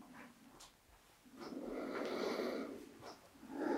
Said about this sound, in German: Und atmen.